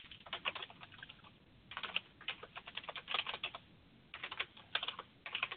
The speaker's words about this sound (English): Somebody typing? Yeah, I am. Oh. I'm finishing this petition so I can get it uploaded before the show's over.